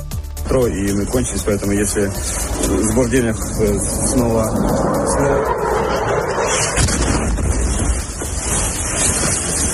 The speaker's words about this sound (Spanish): Es terrible el sonido del misil, ese silbido que corta el aire y que anuncia además un desastre inminente, un daño de consecuencias incalculables. Pues este caía en Kharkov, donde los bombardeos siguen siendo muy intensos